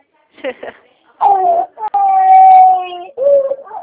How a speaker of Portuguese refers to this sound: Oi? Oi, desculpa, foi minha filha que tá chorando aqui.